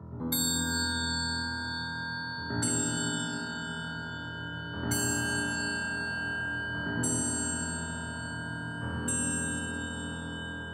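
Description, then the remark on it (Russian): An old castle clock chimes five slow, resonant strikes about two seconds apart, each bright bell-like tone ringing on and overlapping the next, with no voices. “Вдруг старинные часы замка стали медленно бить.”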